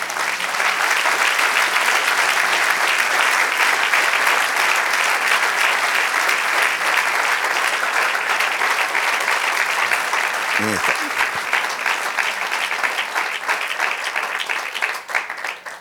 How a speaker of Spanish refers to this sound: Eso merece un aplauso al Señor.